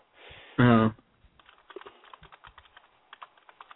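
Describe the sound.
Rapid clicking of keys on a computer keyboard as a person types, a steady stream of fast, uneven taps, following a brief loud burst of voice at the start.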